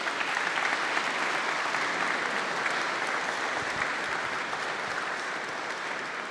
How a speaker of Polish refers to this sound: Wielkie brawa dla panów.